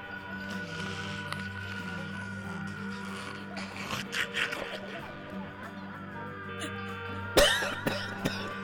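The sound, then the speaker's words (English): A coughing fit: a cluster of harsh, rough coughs in the middle, then a louder, sharper burst near the end, all over a steady low background hum. “Careful there, man. Yeah. Cough a lung.”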